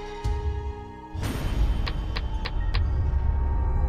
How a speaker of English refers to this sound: They walk back to the car. Robert Blake starts the engine, and he rolls down Bonnie's window.